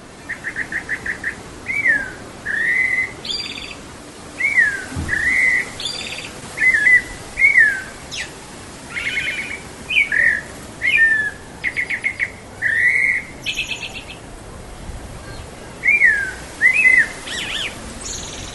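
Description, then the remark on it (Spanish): A rufous-backed thrush (Turdus rufopalliatus), known as zorzal or mirlo, sings repeated short, rich warbled phrases with brief pauses between them, clear over a soft background hum, with no voices present, recorded in the city. “Por ejemplo, este es el paisaje sonoro de un ave que es conocido como zorzal o mirlo, de acuerdo a lo que nos dijo la bióloga Sandra Gallo una vez que lo publiqué en internet, y suena de esta manera.”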